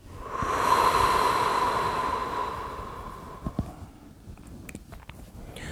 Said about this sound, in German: Noch einmal tief einatmen durch beide Füße. Atme aus mit deinem gesamten Gesicht. Noch einmal einatmen und ausatmen.